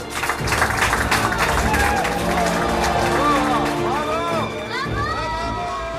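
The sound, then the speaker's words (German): A team claps and cheers together in a steady burst of applause, with excited voices calling out over the clapping throughout, as a solar-powered plane lands successfully in Abu Dhabi. “Und hier haben wir mal rausgesucht, hört man das Team klatschen, als das Solarflugzeug dann gerade erfolgreich wieder gelandet war in Abu Dhabi.”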